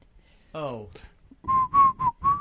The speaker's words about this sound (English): I had to whistle the song so I could see the credits.